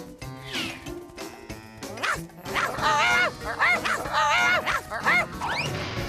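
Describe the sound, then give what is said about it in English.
Several dogs playing tag bark and yip excitedly in quick, overlapping bursts, loud, growing busier and more frantic toward the middle before easing off. “The dogs want to play tag again.”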